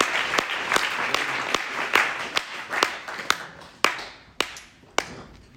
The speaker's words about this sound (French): J'aimerais qu'on puisse applaudir le Seigneur parce qu'il est bon, il est digne. Gloire à toi, Jésus.